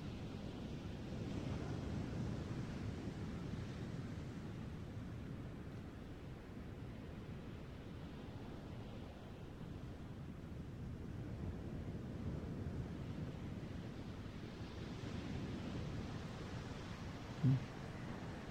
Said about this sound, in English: We let the waves of love, as well as the sounds of the waves, wash over us, which is the same thing.